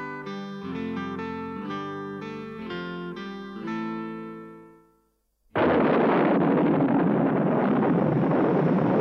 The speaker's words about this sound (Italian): Ah, che pioggia, Rita.